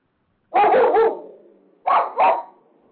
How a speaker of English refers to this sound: I hear the dog.